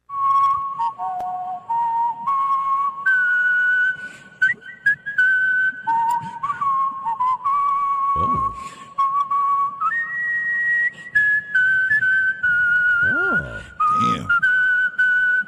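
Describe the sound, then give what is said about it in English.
A four-time whistling champion whistles the national anthem at a Saturday night performance, a slow, stately melody with clear sustained notes that step up and down in pitch, the tune carrying steadily for the whole stretch with occasional faint background noises. “It was done by four-time whistling champion and member of the Whistling Hall of Fame.”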